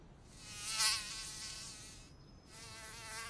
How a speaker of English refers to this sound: The mosquito started biting us. Ouch! Ouch! Ouch!